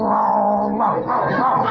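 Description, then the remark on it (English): A man down on all fours imitates a dog's growl, copying the dog, with one continuous, rumbling vocal snarl lasting a couple of seconds. It is fairly loud, with a wavering pitch and no other sounds. “He growls, so I'll growl.”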